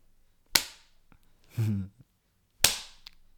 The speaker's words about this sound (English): Such a pretty little butt. Does it need a spanking?